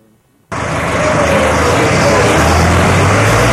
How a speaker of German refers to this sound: Die Steigungen und das Gefälle sind manchmal ganz enorm und weil die unterirdischen Straßen gerade so groß sind, dass man mit dem LKW gut durchkommt, erscheint uns das Tempo ausgesprochen schnell.